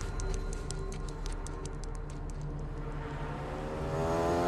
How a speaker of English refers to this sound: the white delivery truck and three motorcycles stop on the bridge.